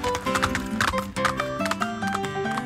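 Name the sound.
horse hooves clip-clopping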